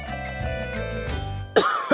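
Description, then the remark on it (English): Two harsh coughs from someone with a cold who cannot sleep burst out near the end, the second sharper, following a steady low tonal hum that fades out just before them. “Sorry, I can't sleep with this cough.”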